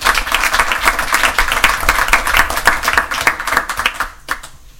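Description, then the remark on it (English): A crowd applauds, with dense, rapid clapping from many hands sustained at a steady level for about four seconds before quickly tapering off into quiet. “And if we're giving applause”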